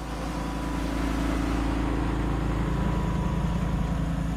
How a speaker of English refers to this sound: It's feeding time at a catfish farm just north of Belzona, Mississippi. A truck moves slowly along a levee next to a catfish pond, spraying out small pellets of special protein-rich feed that hungry catfish swarm to and gobble up.